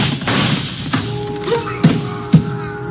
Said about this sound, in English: Schiller grabs at his stomach and crumples onto the pier. The shots came from my left, and I can hear someone running along the pier.